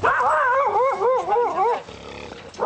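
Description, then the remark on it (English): An angry guard dog lets out a loud, warbling snarl for over a second, then goes quiet before a short, harsh bark-like outburst, on a frigid snowy morning as workers in white protective suits go house to house seizing poultry. No one speaks. “So on a frigid morning, teams of workers dressed in hooded white protective suits and masks tromped through the snow, braving angry guard dogs as they went house to house and sometimes climbed over walls in their pursuit of poultry.”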